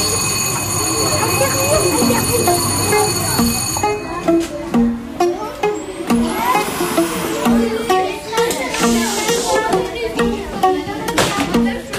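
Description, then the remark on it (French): An underground metro train rumbles through Châtelet station in Paris, a steady high whine ringing at first, while voices talk continuously over the rolling noise. “Métro Châtelet,”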